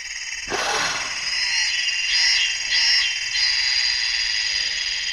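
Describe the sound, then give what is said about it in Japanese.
A steady chorus of frogs croaking and trilling by a river beside a thatched-roof house in the countryside starts abruptly and runs continuously, with a few louder swells rising over the dense, high-pitched background. No one speaks. “そのかやぶき屋根の家の横を川が流れていまして、カエルが顔を覗かせているんです。”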